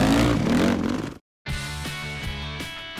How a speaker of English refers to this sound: We're doing a really cool bike restoration for NASCAR driver Greg Biffle. And I kind of challenged him to a motorcycle race. It seemed like a pretty good idea at the time, but I haven't been on a bike in 10 years.